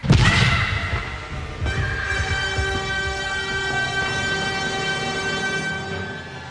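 A muffled, low boom thuds at the start, then a sustained, high-pitched scream rings out and holds steadily for several seconds, loud, with no talking.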